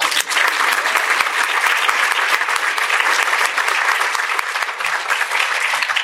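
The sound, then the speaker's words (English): A crowd applauds a panel steadily for about six seconds, the dense, loud clapping holding at an even level throughout with no voices breaking through. “And now a round of applause for this awesome panel.”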